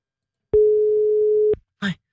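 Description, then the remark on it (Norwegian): A single steady telephone line tone hums for about a second during a call to a wrong phone number, clear, then cuts off. A brief snatch of a voice follows after a short pause. “Det faktisk feil telefonnummer her.”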